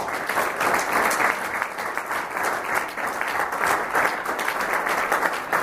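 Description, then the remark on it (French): Sustained applause from the audience at a Chamber of Commerce and Industry gathering, honouring the chamber's former president, a dense steady patter of many hands clapping at an even volume throughout, with no voices standing out above it. “Je voudrais que nous l'applaudissions.”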